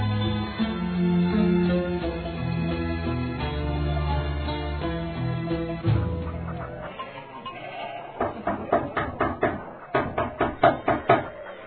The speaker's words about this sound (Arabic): طارق باب رسول الله، السلام عليه، إن كان سائلا أرفدناه بما رزقنا الله.